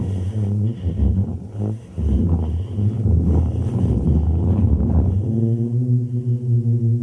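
A singing sand dune booming under footsteps: a loud, low, harmonic drone that pulses roughly at first, then settles into a steady, clear foghorn-like hum for the final seconds.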